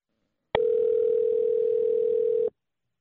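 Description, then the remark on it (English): A single loud, steady ringback tone from an outgoing phone call plays for about two seconds, a flat electronic hum that starts and stops abruptly, with silence before and after. “All right, it's ringing. It's ringing.”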